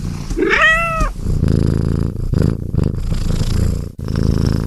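A short rising-and-falling feline cry opens, followed by a loud, steady, low rumbling purr that continues for several seconds with no one speaking.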